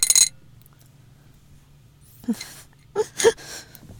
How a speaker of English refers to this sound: And the dice. We're rolling the D10.